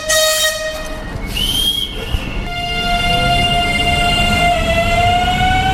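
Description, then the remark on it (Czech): A regional diesel multiple-unit train, of the Regio Shark, Regio Panther or Regio Fox type, rumbles by, loud and steady, with sustained high-pitched whining tones gliding over the engine and wheel noise; no one speaks. “Tedy motorové soupravy Regio Shark, Regio Panther a Regio Fox.”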